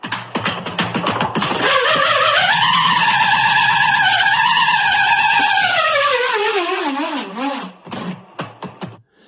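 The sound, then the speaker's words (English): A metal nut whirls inside an inflated balloon that is being spun, building from a rattle into a loud, steady, wavering whine that slowly falls in pitch as the nut slows, then breaks into scattered clicks as it stops and drops to the bottom of the balloon. “when you put a bolt or a nut, not a peanut, in a balloon and put air in the balloon and spin it.”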